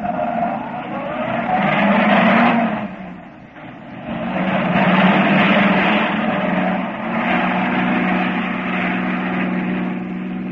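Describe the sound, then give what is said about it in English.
Car brakes screech loudly as a car pulls up at an opening drawbridge, a long, harsh, grinding squeal that dips briefly partway through and then surges again until the end. No one speaks over it. “They pull up with a burning screech of brakes.”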